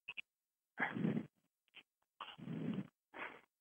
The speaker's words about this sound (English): Somebody's breathing in the mic. That's just beautiful. Mic. That's probably me.